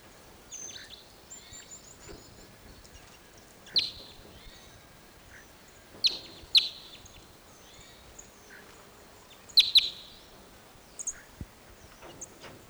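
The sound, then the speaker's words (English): A small flock of birds moving down lower into Apache pines gives scattered, high, thin chirps and short calls, some overlapping, with brief sharper bursts standing out against a quiet background hiss. “Those birds all went down lower into another Apache pine set.”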